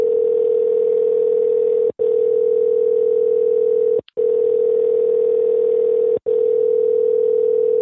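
A steady, loud telephone tone hums on continuously, broken only by three brief silent gaps, as a call is being placed. No voices are heard.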